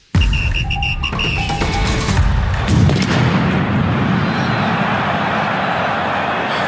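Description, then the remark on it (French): A loud firecracker blast erupts in a packed football stadium, a sharp bang with a crackling burst, followed by a sustained roar and rumble of the crowd. The firecracker went off near the assistant referee and players Amavi and Strootman. “À cause de ce pétard qui.”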